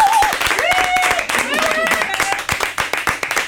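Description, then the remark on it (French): A live audience of women spectators at an evening show claps steadily and densely throughout, with excited high-pitched cheers and voices rising above the applause. “Un tonnerre d'applaudissements pour nos spectatrices de ce soir.”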